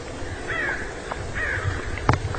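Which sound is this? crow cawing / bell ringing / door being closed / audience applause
crow cawing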